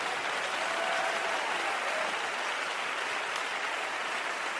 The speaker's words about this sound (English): In the name of the Lord Jesus Christ of Nazareth, in Jesus' name, can you clap your hands unto the Lord? And if you're excited, why don't you clap those hands a little bit louder?